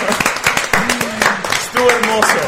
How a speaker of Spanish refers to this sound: Un aplauso, sí. Precioso.